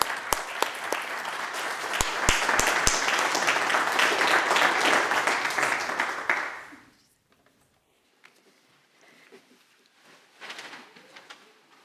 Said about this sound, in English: Let's celebrate with a round of applause.